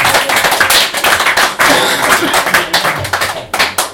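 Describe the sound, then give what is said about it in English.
An audience applauds three poets, a dense crackle of many hands clapping at once, sustained and fairly loud throughout with uneven bursts and no voices standing out. “And a round of applause for them.”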